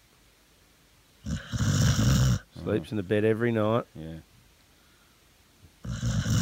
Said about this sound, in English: Yeah. And what we should point out is that Valentino is a Cocker Spaniel. So she sleeps with a snoring dog.